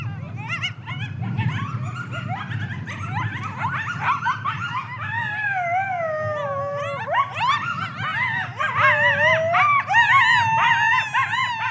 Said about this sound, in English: I mean, and I've got writer friends who have described coyote howls as maniacal, like a bunch of maniacs.